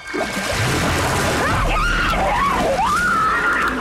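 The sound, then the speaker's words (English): A loud, wavering scream from the opening scene of a shark movie rises and falls over about three seconds, with constant splashing and sloshing water beneath it and no other voices. “And to add a little spice, I pulled a scream from each of these movies to help you decide whether this is a horrifying scream or a thrilling scream.”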